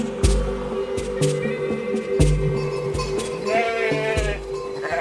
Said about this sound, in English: Hundreds of sheep come running down the mountain along a wooded trail. Some keep in single file, others in little groups.